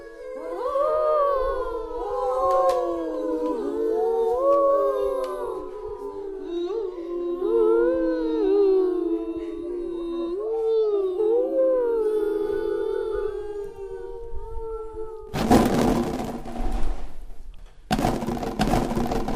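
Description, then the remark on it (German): Several eerie ghost voices hum a spooky song together, a slow, wavering melody with overlapping pitches gliding up and down for about fifteen seconds before loud bursts of rushing noise break in at the end. “Lass uns doch ein schauriges Lied summen, schlug eines der Gespenster vor.”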